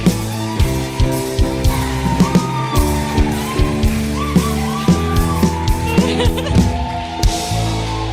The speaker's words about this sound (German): Einen großen Applaus